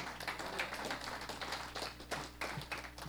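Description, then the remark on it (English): An audience applauds, a dense, steady patter of many hands clapping at once for about three seconds, fairly soft throughout with no voices standing out. “That's, let's clap about that.”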